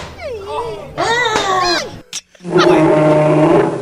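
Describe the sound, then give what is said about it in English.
A human voice imitates an animal, first with a rising, wavering high-pitched squeal, then after a brief pause a loud, rough, sustained low growl. “Look at that high squeal. And then the low growl.”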